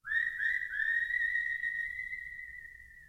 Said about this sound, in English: And the animated critters are kind of echoed by the whistling that we'll hear at the opening of this song.